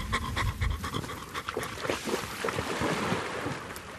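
Lurg, a sniffer dog with the Breeding Waders EIP project, pants rapidly and steadily after a search, breathy rhythmic huffs over a soft outdoor wash of wind and water noise, with no talking.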